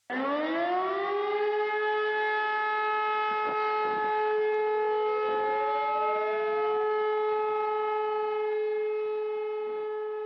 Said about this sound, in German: Einen wichtigen und gut hörbaren Teil leisten hierfür Warnsirenen. Unterscheiden können musst du zwischen zwei Signalen. Die Warnung ist ein einminütiger, auf- und abschwellender Heulton. Die Endwarnung ist ein einminütiger, anhaltender Ton.